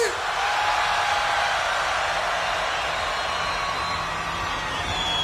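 A crowd at UltraFest 2017 screams together on a count of three in one loud, sustained roar that holds steady for about five seconds without letting up.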